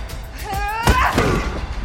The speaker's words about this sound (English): escapes her ropes and slams her chair into the demon boss. She kicks and beats him to the ground.